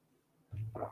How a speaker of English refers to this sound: And let me go ahead and get a sip of water before we jump into these questions.